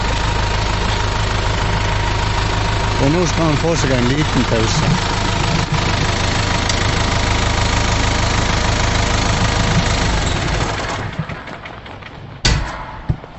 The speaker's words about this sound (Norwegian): Han driver og fløyver ved nå med traktoren så de hører.